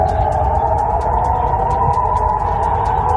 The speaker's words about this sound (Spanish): Y las sirenas antiaéreas suenan en Jerusalén por primera vez en semanas desde que empezó la guerra entre Israel y Hamás.